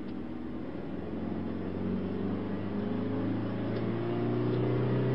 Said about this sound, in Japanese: あれは金龍会の車ね。